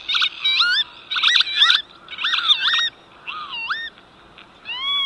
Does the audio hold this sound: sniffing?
no